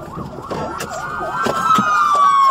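An Austin Police car siren wails in a fast, rising-and-falling yelp during a pursuit, recorded on a dash cam, loud, with engine and road rumble underneath and a few sharp knocks as the vehicle moves.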